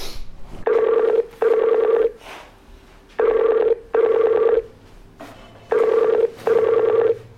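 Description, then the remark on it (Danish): A telephone ringing tone repeats in paired bursts as a call is placed, three double rings in steady rhythm, clear and fairly loud with brief quiet gaps between pairs and faint background noise. “Har du skrevet det, du ringer nu? Ja, det gør jeg.”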